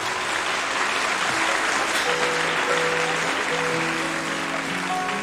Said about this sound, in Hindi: आप हैं हिंदुस्तान के मशहूर सारंगी नवाज उस्ताद सुल्तान खान साहब, ज़रा तालियों से इस्तकबाल कीजिएगा।